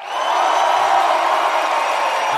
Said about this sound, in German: Applaus, oh. Applaus.